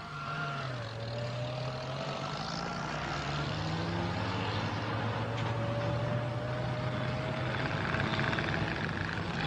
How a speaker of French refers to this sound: Rien ne manque, ni les avions, ni les hélicoptères, ni les camions, ni les blindés.